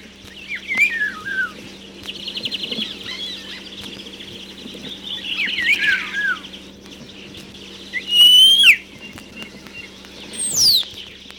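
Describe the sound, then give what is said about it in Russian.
Greenfinch and starling songs trill and chirp back and forth by an old manor house and the nanny's cottage in the Pskov region, bright bursts with sharp rising whistles near the end, over a faint steady hum and no talking. “Мы слушаем зеленушку и скворца. Они выводят те же трели, как и в то далекое время.”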